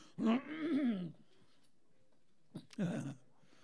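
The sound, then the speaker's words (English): A person clears their throat twice with rough, voiced rumbles: a longer one first, then a pause and a sharp click before a shorter second one. No words are spoken. “I gotta clear my throat.”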